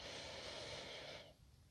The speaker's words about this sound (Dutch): Misschien nog een keer een diepe ademhaling in.